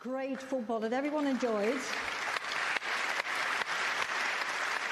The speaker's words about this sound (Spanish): Les pediré que aplaudan después. Este equipo merece ser celebrado y merece ser escuchado. Les voy a dar de nuevo un gran aplauso y espero que se unan a mí. Gracias.